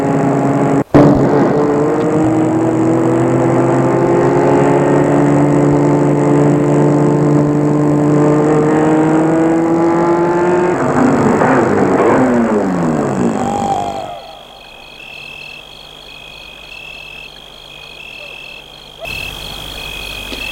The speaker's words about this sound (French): Trajet de route dans la nuit.